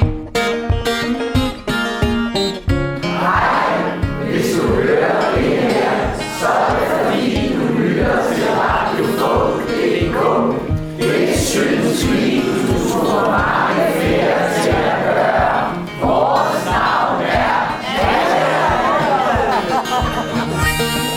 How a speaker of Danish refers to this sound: så har vi lige en hilsen fra publikum ved Radio Folk.dk's indsamlingskoncert på Metronomen på Frederiksberg i november 2023